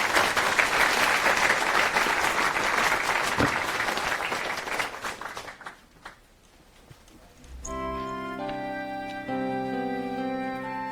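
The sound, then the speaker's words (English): An audience applauds to welcome a speaker giving a talk on Willow, a family of peer-to-peer storage protocols, with dense, steady clapping that fades out after about five seconds, then a brief lull before sustained, layered musical tones begin. “Let's welcome her with a round of applause.”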